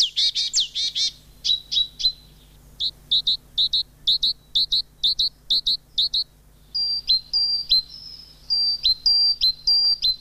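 Small birds that come from Scandinavia and northern Finland to spend the winter chirp outdoors in rapid, high-pitched bursts, then settle into a steady series of short tweets and a few longer whistled notes, clear, with no talking.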